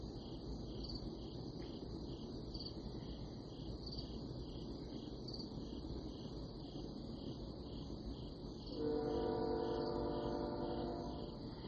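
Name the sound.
train passing by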